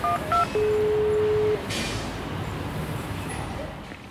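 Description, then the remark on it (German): A few quick electronic beeps from an intercom, then one steady, mid-pitched ringing tone that holds for about a second before cutting off, leaving only a low rumble of street noise. “Klingeln wir mal.”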